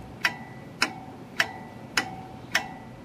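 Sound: clock ticking sound effect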